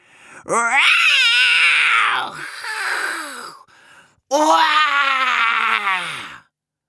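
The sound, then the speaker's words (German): Loud, drawn-out roaring voices imitating a tiger's roar, roaring as loud as they can out of anger, in two long bursts separated by a brief pause, with a strained, throaty quality. “Kannst du auch laut brüllen?”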